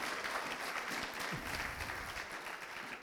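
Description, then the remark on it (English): An audience claps steadily, a dense, even patter of many hands holding a constant level for a few seconds without any voices rising above it. “Yeah, give him a good clap.”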